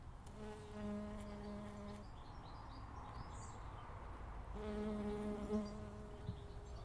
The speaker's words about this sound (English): There is a bee, wee honey bee, on the marjoram.